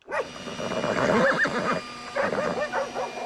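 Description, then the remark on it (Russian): A horse neighs loudly, a long wavering whinny followed by a second, shorter burst of shaky neighing, with no voices present; horses were harnessed with snowmen and dogs to pull a bulldozer out of a river. “Впряглись снеговики, лошади, собаки.”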